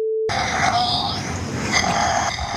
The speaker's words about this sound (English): The weird thing is the heavy breathing on either side of it.